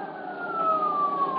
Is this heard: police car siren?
yes